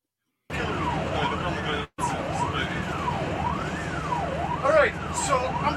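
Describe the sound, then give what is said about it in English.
An ambulance siren wails in slow, steady rising and falling sweeps, loud and continuous, heard from inside a Russian medical-disaster ambulance in the Belgorod region, heading to the border front line with Ukraine's Kharkov region, over a deep engine and road rumble. “And right now we are in an ambulance of the region of Belgorod, Russia.”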